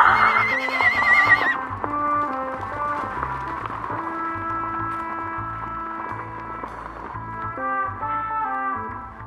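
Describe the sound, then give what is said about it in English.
A horse whinnies loudly at the start, followed by a steady, rhythmic clip-clop of hooves as two horses trot along under a sustained tonal background. “I've got two horses over here.”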